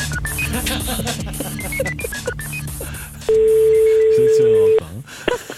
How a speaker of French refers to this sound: vous savez que nous sommes sur le coup en permanence avec notre téléphone magique, on appelle tout de suite le client sur son portable.